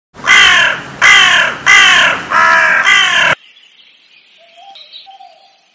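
A crow gives five loud, harsh caws in a steady rhythm, each raspy and drawn out, then the calls stop and only faint, thin background chirps remain.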